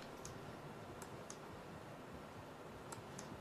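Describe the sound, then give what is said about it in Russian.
A handful of sparse, quiet key clicks on a computer keyboard that is not working properly, spaced irregularly, over a steady background hiss; nobody speaks. “Оп, что-то у меня все-таки с клавиатурой.”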